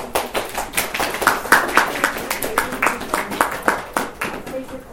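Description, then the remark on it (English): An audience breaks into clapping, a dense, uneven patter of many hands that keeps up steadily for several seconds, with a few louder individual claps standing out and faint voices mixed in. “You never clap for me.”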